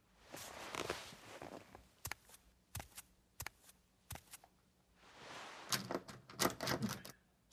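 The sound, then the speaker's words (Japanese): Metallic rattling and clicking as the handle of a locked door is jiggled repeatedly to check whether it is locked, with sharp knocks and clacks in irregular bursts, the latch never giving way. No one speaks. “ほら開いてない、残念でした。”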